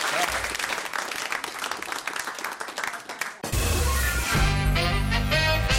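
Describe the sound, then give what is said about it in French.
A crowd applauds with dense, steady clapping for about three seconds, then the applause cuts off abruptly and loud music with a deep bass line takes over. “crois qu'on peut applaudir”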